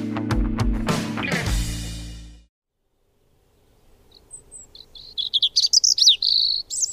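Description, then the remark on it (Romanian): After a short burst of music and a pause, a small songbird sings high, quick twittering phrases and trills that grow louder and more continuous. “Deși în vest este un simbol al Crăciunului, această mică pasăre cântătoare este pentru noi mai degrabă o vestitoare a primăverii.”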